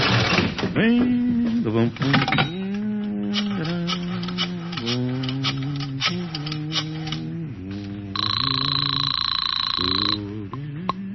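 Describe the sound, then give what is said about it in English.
A telephone rings once in a loud, buzzy two-second burst near the end, preceded by a run of short, rising and falling voice-like tones that may be the number being dialed; a phone call to the Marcus Towel Agency. “Right now, I want to make a phone call.”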